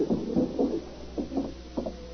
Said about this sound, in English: A few minutes later, Hamilton Meade heard a rap on the door.